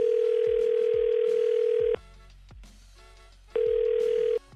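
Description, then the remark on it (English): A steady outgoing phone ringback tone sounds twice, a long burst then a shorter one after a pause, loud with faint line noise between rings, as a call is placed from the 99.9 Virgin Radio morning show. “So make the phone call.”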